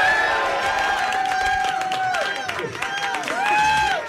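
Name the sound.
audience cheering and applauding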